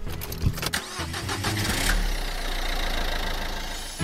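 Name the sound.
car engine starting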